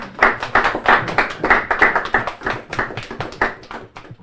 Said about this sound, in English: But for the moment, thanks to all the pupils at St Ninian's. A big round of applause. Thank you, everyone.